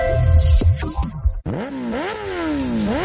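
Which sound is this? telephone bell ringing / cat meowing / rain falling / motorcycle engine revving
motorcycle engine revving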